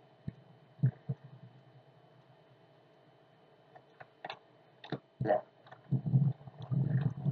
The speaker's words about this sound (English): Oh, and let's not forget that great fan, the sound of which you may be hearing in the background as well, as it drones steadily on, keeping that air moving.